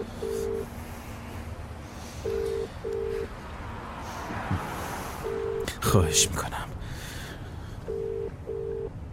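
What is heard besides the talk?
telephone ringing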